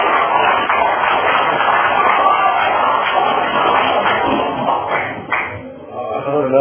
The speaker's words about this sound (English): Another round of applause for both of our speakers tonight.